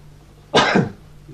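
A single sharp sneeze bursts out after a quiet moment, loud and breathy across a wide range, then trails off quickly into near silence with no talking.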